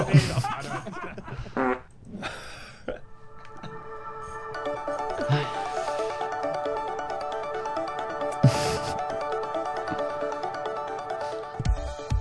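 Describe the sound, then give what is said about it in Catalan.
Several loud, raspy fart noises burst out at intervals, from the start to the end, over a steady electronic tone like a ringtone, with faint voices and laughter in the background. “Si te'n vols tirar un, jo estic content.”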